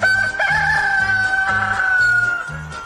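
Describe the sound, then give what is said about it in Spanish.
A loud, drawn-out rooster crow rings out, held steady for a few seconds over a rhythmic, repeating low musical backing. “De regreso a casa se topó con el señor Gallo.”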